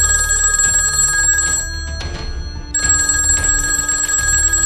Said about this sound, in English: gets a phone call.